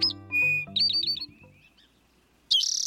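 towhee call

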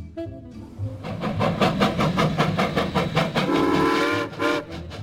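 steam train with whistle

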